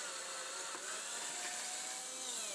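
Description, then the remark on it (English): A power drill whines steadily as it bores holes into a wooden batten at marked spots, a continuous high-pitched grinding with a slight shift in pitch as the bit cuts through, fairly loud with no talking. “Right, now it's time to drill some battens, drill some holes in some battens.”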